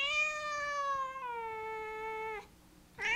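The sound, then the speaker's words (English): A little black cat with a white nose, wanting to go outside, lets out a long, drawn-out meow, loud, sliding lower in pitch partway through, then after a brief pause starts another meow. “What is it, Ahab? I want to go outside.”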